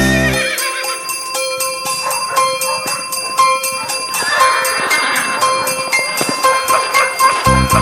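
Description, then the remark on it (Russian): Sleigh bells jingle in a rapid, steady shake for the whole stretch, bright and metallic with a ringing high shimmer, fairly loud with no voices over them. “Бубенцы, бубенцы радостно галдят, звон идет во все концы, саночки летят.”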